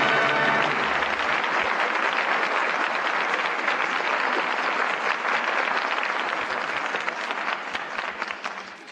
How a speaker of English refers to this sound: The curtain falls on Father Was a Fullback, and that well-deserved applause calls back our stars, Maureen O'Hara, Paul Douglas, and Betty Lynn.